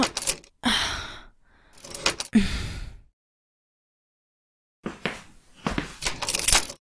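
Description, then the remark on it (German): A key jangles and scrapes against a lock it does not fit properly and cannot be turned in, in a few clattering bursts, then a quiet pause before more rattling and fumbling resumes. No one speaks. “Er passt nicht richtig ins Schloss. Ich kann ihn nicht rumdrehen.”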